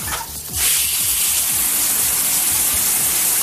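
A shower bursts on after a brief quiet start, then runs steadily as a loud, continuous hiss of spraying water with no voices.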